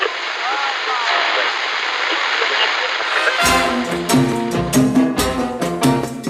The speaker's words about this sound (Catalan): Una pistola d'aigua. No ho sé, però està apuntant cap aquí.